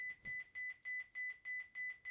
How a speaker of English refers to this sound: Is someone looking for the phone? Someone is looking for the phone. That's what that beeping sound is.